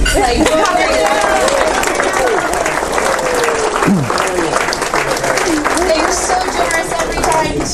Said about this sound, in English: Before I hand this over to him, can we all just give like a big round of applause to the K?